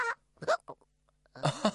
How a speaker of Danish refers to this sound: har fået hikke